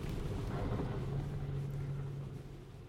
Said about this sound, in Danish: Og det er også en særlig teknik. Det er ikke noget, man bare lige skal give sig i kast med, selvom bilen den kan. Men nu kører vi igen med et vandhul en gang til.